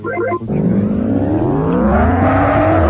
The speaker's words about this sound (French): la découverte de Micro Machines, ce jeu de petites voitures très rigolo